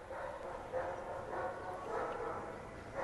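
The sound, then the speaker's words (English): A big dog barks repeatedly outside a window, in an open area, five or so muffled, irregularly spaced woofs over a steady background hush, with no one speaking. “I think that's a big dog.”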